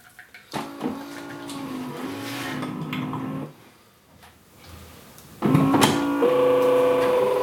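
A coffee machine whirs and hums in two steady mechanical bursts, the first about three seconds long, then a short lull before a louder, higher-pitched drone resumes. No one speaks.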